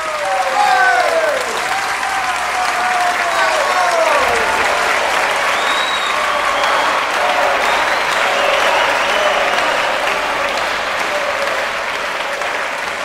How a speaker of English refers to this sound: Still stunned by what it had just experienced, the audience was jolted back into reality by the sound of a lone, sustained clap, followed by a few sparsely isolated claps, which quickly turned into cheers.